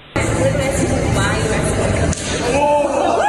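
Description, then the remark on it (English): A single sharp hand slap cracks out about two seconds in at Easttown Mall, a shopping mall, cutting through the dense hum of a busy crowd chattering. “Yeah, that's a slap, people.”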